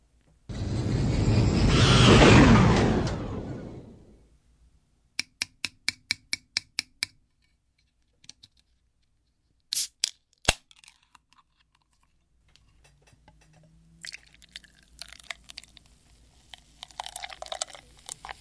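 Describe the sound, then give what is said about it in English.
An orangish, mint-scented beer is opened with a loud rushing hiss that fades, followed by a quick run of sharp clicks and taps, then a steady crackling fizz as it is poured. No one speaks. “All right, I want to drink this, so let me switch to the beer mic so you can hear the opening and the pouring.”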